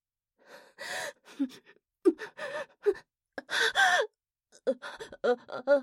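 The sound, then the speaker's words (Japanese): A series of breathy moans and gasps from a woman come in uneven bursts with short pauses between them, mixed with a man's heavy breathing, during sex in a living room. There is no speech. “リビングは今や私の喘ぎ声と彼の荒い息遣いで支配されている。”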